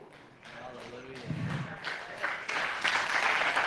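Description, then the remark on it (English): A crowd begins clapping, the applause building from scattered claps into a fuller, steady round, with voices murmuring underneath and a dull thump partway through. “You don't even have to clap.”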